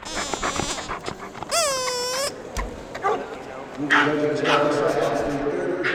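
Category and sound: animal, dogs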